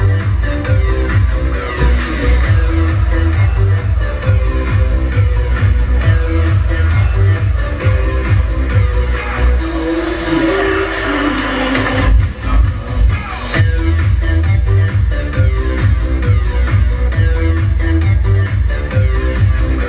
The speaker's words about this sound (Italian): Un grosso applauso all'amico